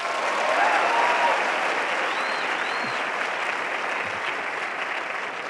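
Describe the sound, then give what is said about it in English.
An audience claps steadily in a sustained round of applause, dense and even throughout, with a few faint whistles rising above the clapping, applauding to show how many have seen the film Napoleon Dynamite. “Just curious, similarly, by a round of applause, how many people have seen Napoleon Dynamite?”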